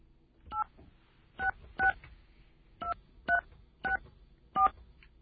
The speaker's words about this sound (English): Do we have a dial tone? Okay. I'm going to dial this number.